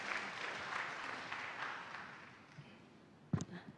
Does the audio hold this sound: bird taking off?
no